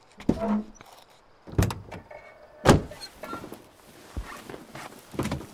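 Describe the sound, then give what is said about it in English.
Someone climbs into a car: a few sharp door thuds and clunks, with shuffling and rustling of movement in between, fairly loud, no voices. “got back in the car.”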